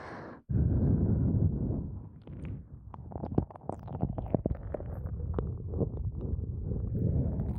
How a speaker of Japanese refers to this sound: こうして耳よく舐めたり、徹底的にお耳いじめて。